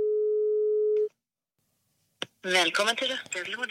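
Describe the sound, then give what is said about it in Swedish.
A steady telephone ringing tone of an outgoing call sounds once for about a second, followed by a short silence, a sharp click, and then someone starts talking. “Okej, ringa henne igen.”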